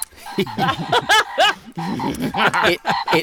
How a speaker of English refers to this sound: It sounds like a frog. It looks like a frog. And then it probably is a frog. And it's got a little tongue hanging out.